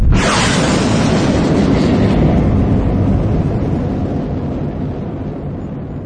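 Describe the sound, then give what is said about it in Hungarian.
The engines of the spaceship The Mariner rumble to life as it launches into space: a deep, powerful roar bursts in suddenly and rumbles on steadily, slowly easing in intensity toward the end. No voices. “Az űrhajó motorjai berregve ébredeznek, és amint Emin és csapata bekapcsolják, hatalmas erővel röpíti őket kifelé a világűrbe.”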